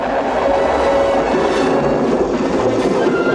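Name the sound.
torrential rain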